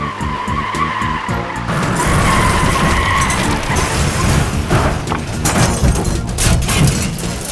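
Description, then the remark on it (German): A car skids loudly with a long, harsh scraping roar, followed by several sharp crunching impacts as it collides and is dented, all continuous with no talking. “Zehn Minuten den Wagen und schon ist da eine Beule drin.”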